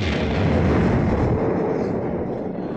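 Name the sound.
vocal imitation of explosions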